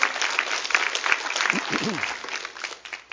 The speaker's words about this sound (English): Give them a good clap offering one more time. Come on.